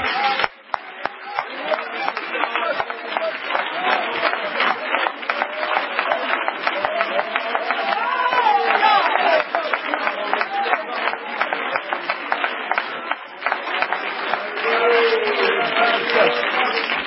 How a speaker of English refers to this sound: Is he worthy? Let's give him a hand of applause.